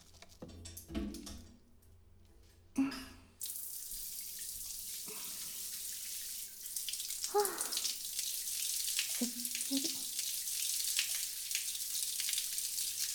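A shower runs in a steady, hissing spray after a few soft knocks and bumps, with occasional muffled thuds as the water keeps pouring. No one speaks.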